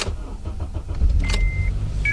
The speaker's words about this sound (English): So I resorted to an overpriced generator, my car.